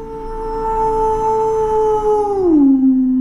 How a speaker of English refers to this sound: Rang a distant howl.